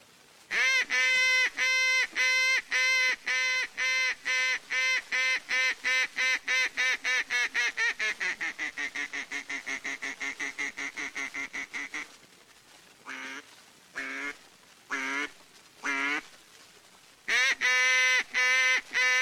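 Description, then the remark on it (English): A loud open water highball duck call, as done at Bean Lake, Missouri, blares a long, rapid run of evenly spaced quacks that slowly descend and soften, then a few spaced single quacks before a final fast burst. “Here's duck calling is done in various parts of the country. The Bean Lake, Missouri open water highball.”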